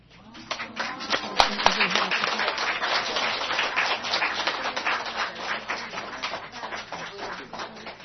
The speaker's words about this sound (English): I'm not used to this applause. I'm not used to applause. 我不习惯大家为我鼓掌，这么热烈的欢迎。